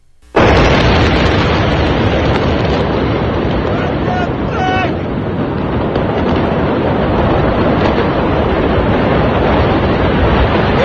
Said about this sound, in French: Ce qu'on a, par contre, à vous faire entendre, c'est l'audio de l'explosion à Beyrouth.